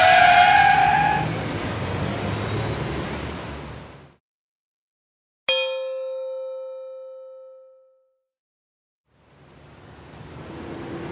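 A loud car tire screech with a high squeal runs for about four seconds and cuts off abruptly. A single bright ringing tone fades out, then a rushing noise returns. No one speaks.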